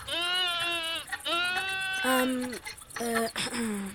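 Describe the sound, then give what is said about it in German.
Sheep and goats bleating at a waterhole in a steady chorus, with about five drawn-out, wavering calls following one another and overlapping, some higher and some lower. “Das müssen Schafe und Ziegen an einem Wasserloch sein.”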